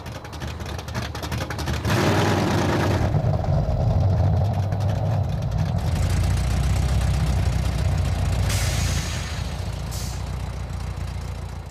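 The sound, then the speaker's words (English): The Chevy 350 small block V8 engine, 245 horsepower, of a bright red 1990 Chevy Corvette idles with a steady, deep rumble, swelling louder for a few seconds as if revved, then settling back to a continuous low throb. “Under the hood is a Chevy 350 small block engine with 245 horsepower”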